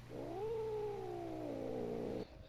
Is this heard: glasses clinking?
no